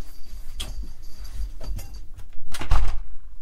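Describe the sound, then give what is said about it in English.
A door being opened: a latch click, some rattling, and a couple of dull thumps over about three seconds, with no one talking. “Sorry, you want the door opened? Yeah, no problem at all.”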